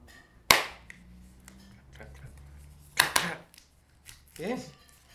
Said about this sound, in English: Come on, clap, clap. Yes, good boy. Well done.